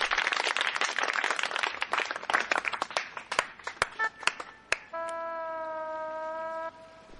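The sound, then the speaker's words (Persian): A burst of children's clapping and applause as they applaud themselves, dense and lively for several seconds, thinning into a few scattered claps before a sustained tonal horn-like sound takes over near the end. “قبل از هر چیزی خودتون رو تشویق کنین.”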